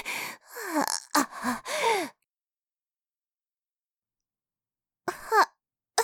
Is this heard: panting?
yes